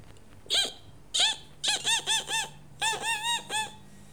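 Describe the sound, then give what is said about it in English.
A run of high, thin mouse squeaks: two separate chirps, then two quick bursts of four, each squeak arching up and down in pitch, with no talking. “Mouse.”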